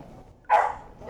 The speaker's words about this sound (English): The dog barked, and I jumped.